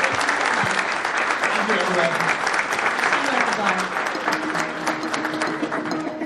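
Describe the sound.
Steady, dense applause from a sizable audience for a panel at a live in-person event on Rhode Island schools in Providence, at full volume for several seconds, with scattered voices murmuring and calling out beneath the clapping.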